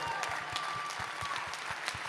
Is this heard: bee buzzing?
no